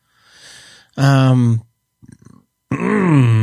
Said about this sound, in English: Thanks, guys. Thanks for sitting through that burp,